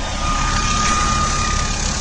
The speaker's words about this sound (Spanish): En el helicóptero que estamos escuchando, acaban de subir el presidente de Estados Unidos, George W. Bush, y el ex presidente de Argentina, su amigo entrañable.